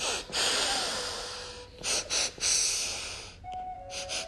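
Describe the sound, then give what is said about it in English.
Several quick, sharp sniffs draw air in through the nose in a rapid series of five to seven inhales during a breathing exercise, fairly loud, with no talking, before the breath settles into a quieter hold. “So you're gonna sniff 5, 6, or 7 times. Inhale, inhale, inhale, inhale, inhale, inhale.”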